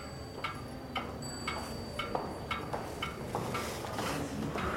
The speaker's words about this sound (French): Il y a plein d'horloges ici. Alors le temps est partout ici. Alors ici, vous avez en fait une horloge astrologique avec les 12 signes du zodiaque et deux allégories, l'une qui représente le jour et la nuit